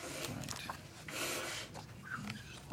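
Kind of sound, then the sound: human body sound, sniffling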